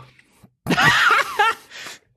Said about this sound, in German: der hat ja in den letzten Random-Movie-Folgen gern mal gegähnt nebenbei